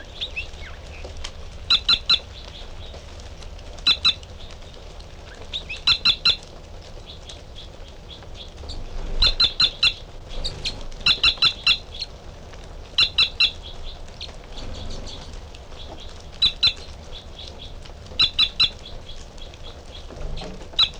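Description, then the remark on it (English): A male bird sings song phrases behind a female, a series of short, bright, high-pitched chirping phrases at a steady pace, each burst a quick cluster of sharp notes over a quiet, low hiss. “is the female, and the male giving song phrases behind.”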